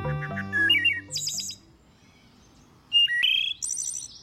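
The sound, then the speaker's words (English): Birdsong in two bright bursts: a run of varied, high whistled notes and chirps, a quiet gap of about a second and a half, then another quick, loud volley of high tweets. “This is Bird Note.”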